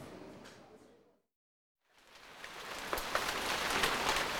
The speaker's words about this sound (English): And it's pouring down. It's just like London.